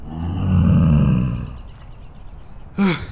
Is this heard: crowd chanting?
no